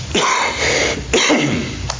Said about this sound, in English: I turn it off to cough so y'all don't have to hear that, and then sometimes the switch is weak